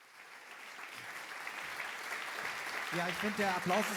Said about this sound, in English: Yeah, so the applause is well earned. Great talk, well structured.